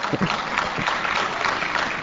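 An audience applauding, a dense, steady wash of many hands clapping at an even loudness for the whole two seconds, with no voices standing out.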